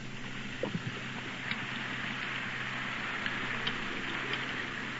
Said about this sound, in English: Now, she breaks the egg right over it. I think we better come over here so that we can have the sound. Now, the liquid air is being poured right in to the skillet of ice. Remember, the skillet is on a cake of ice. Listen to it sizzle.